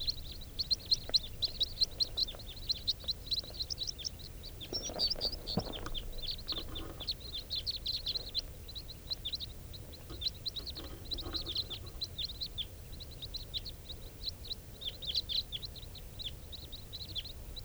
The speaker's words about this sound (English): And I hear a big flock of type 4s. Stop. Flock of birds flying over.